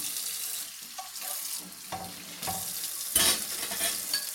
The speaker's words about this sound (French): Quand ils avaient terminé, Madame Pourchamp lavait la vaisselle.